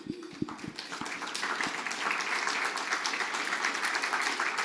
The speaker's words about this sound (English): Anyone who is leading a Life Group now, if you're a couple, husband and wife, stand. And if you've ever led a Life Group, stand up. We want to applaud you.